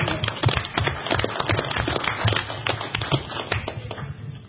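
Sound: round of applause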